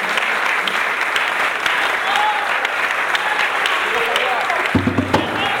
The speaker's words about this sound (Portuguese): Você uma salva de palmas pra você